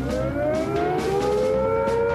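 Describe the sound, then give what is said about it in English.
A civil defense siren warning of a nuclear attack wails steadily and loudly, its tone slowly rising in pitch with rich harmonic overtones, sounding alone without any voices. “If we are attacked by nuclear weapons, these are the warning sounds you must recognize.”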